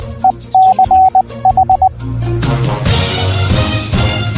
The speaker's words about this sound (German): Rauschen, was ist das eigentlich? Wie entsteht es? Mit Rauschen ist nicht etwa die Nachwirkung exzessiven Alkoholkonsums zu verstehen, sondern vom Rauschen auf den Funkfrequenzen ist die Rede. Und das ist überall, kann nicht vermieden werden.